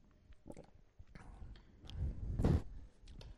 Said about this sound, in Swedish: Och nu ska jag ta en liten klunk så ni får tänka efter.